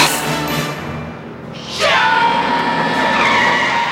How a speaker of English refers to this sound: Biff slams broadside into the truck, spilling wet soil and debris into his open car.